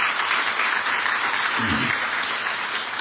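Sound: audience cheering and applauding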